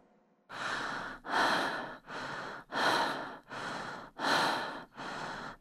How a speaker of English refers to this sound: Now let's try some shorter rhythmic breaths. Still through the mouth, and place your hand flat in the centre of your chest and move the breath in that area. Try it with me.